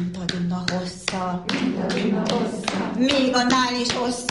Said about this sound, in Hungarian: És ebben a tapsikolásban időközönként már a gyerekek is bekapcsolódnak. Pedig ez az anyukáké.